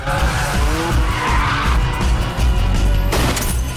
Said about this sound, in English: the Mazda, tires smoking, slides sideways round a bend. The 350 catches up.